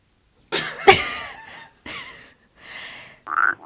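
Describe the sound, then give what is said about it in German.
A man clears his throat several times in a row, a series of rough, raspy bursts with short pauses between them, fairly loud, with no talking. “Immer wenn ich reden will, dann räuspert der sich.”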